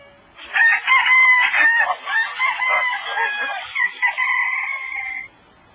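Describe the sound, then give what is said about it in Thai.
A jungle fowl rooster crows at dawn at the Jetavana monastery, carried on the wind, once in a long, drawn-out call lasting about five seconds, loud, with the harmonic notes breaking and wavering before trailing off into silence. “เสียงไก่ป่าขันอยู่เจ้ยแก้วเคล้ามากับสายลมวิเวกวังเวง”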